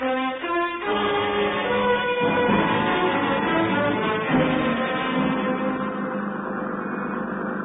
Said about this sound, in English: Then let's get this boat cranked up, Inspector.